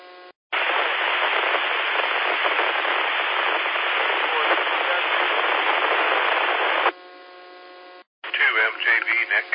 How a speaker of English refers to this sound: That last station that checked in, you were way down in the noise, and all I heard was static.